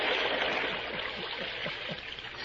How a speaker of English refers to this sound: It is a shame to drown a man with a mask on. Turn the water into the well.